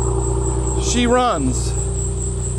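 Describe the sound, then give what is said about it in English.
A car engine idles steadily with a low, continuous exhaust drone throughout, an old car running again after being rewired, while a brief excited voice exclaims over it midway. “She runs. Holy moly. Listen to that exhaust.”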